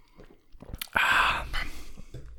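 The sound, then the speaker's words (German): An audible slurping sip of Ramon Bilbao Reserva red wine from a glass, drunk in a toast to the dead, one airy drawn-in gulp midway, surrounded by faint smacking mouth sounds and soft breaths. “Und wir erheben jetzt unser Glas an Gedenken an die Verstorbenen.”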